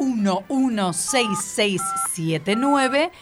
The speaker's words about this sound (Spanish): Mira cómo ya lo van marcando y lo van agendando en el celular como número de la radioescuela.